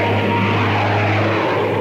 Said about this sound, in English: Planes. How low they're flying.